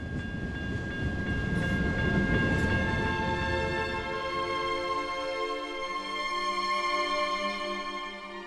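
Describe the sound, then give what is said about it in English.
A train rolls steadily along the rails, a heavy low rumble that thins out halfway through, leaving a sustained metallic whine and humming tones from the wheels, continuous, with no voices. “But it was not my show anymore, and I wished this bloody train would get to Mestre, and I would eat and stop thinking.”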